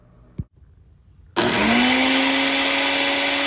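household object, blender mixing a drink

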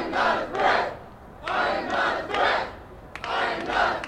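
crowd, crowd chanting

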